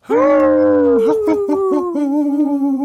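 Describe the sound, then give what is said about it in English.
A person lets out a long, loud wolf-like howl, a sustained wavering tone that slowly drifts lower in pitch for nearly three seconds, with a brief break partway through. “we'll have to get Mary on one of these days to howl with us”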